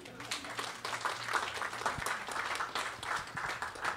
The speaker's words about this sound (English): You can clap now.